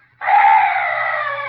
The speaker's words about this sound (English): Oh, what's that? Oh, some night bird. Yes, that's all.